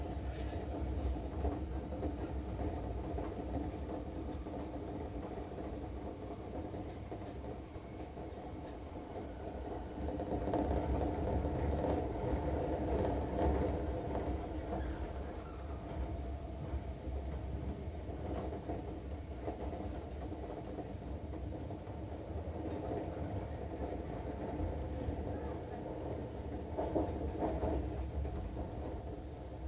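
Steady low rumble and rattle from inside a moving train car approaching Shitennoji-mae Yuhigaoka station (station number T26), continuous throughout, swelling louder for a few seconds midway as the carriage sways along the track, with no voices.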